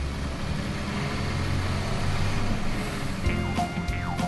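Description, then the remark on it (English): A steady low engine rumble of a bus driving on a field trip, continuous and fairly loud, with some brief higher whining and squeaking sounds toward the end. “On the bus. Vroom, vroom, vroom.”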